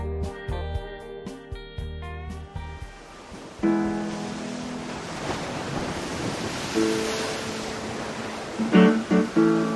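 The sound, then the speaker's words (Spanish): A short musical phrase gives way to the steady rush of waves breaking on a beach in Mar del Plata at dawn, a broad continuous roar that swells now and then, fairly loud, with no voices. “Es el 10 de febrero de 2006, en una playa de Mar del Plata.”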